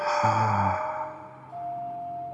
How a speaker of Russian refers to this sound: И сейчас попрошу тебя слегка приоткрыть рот, сделать глубокий вдох через нос, наполняя грудь, живот, и выдох через рот.